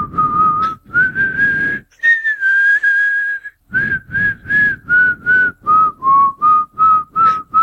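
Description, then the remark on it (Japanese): A person whistles a bright cartoon theme melody, a sustained opening phrase followed by a run of short, evenly rhythmic notes, loud with no talking, like the whistle of a black-clad silhouette character in Gatchaman II. “そいつが口笛を吹いてるんですよ。”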